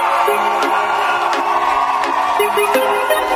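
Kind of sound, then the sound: crowd, crowd shouting and cheering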